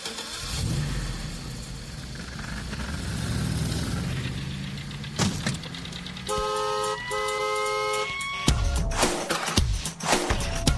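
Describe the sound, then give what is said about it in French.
A music track built from sounds recorded from a car: engine rumble and revving, then loud, sustained car horn honks in two close blasts, followed by more layered horn tones and traffic noise, with no talking. “ils utilisent beaucoup de samples du quotidien, genre des klaxons, des bruits de verre, on l'entend souvent, des bruits industriels, et il y a un morceau qui est fait avec des klaxons et des bruits de bagnole.”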